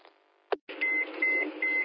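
A brief crackle, then a hiss of band-limited radio static carrying three steady, high-pitched test beeps in a repeating pattern, fairly loud, with no one talking.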